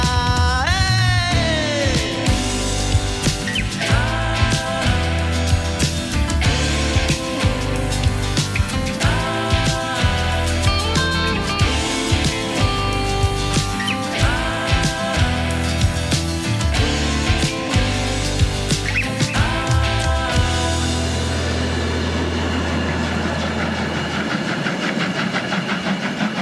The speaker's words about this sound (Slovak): To, čo sme dopočúvali, bola vstupná pesnička do nasledujúcej hodinovky rozhovoru s osobou, ktorá je podpísaná pod touto skladbou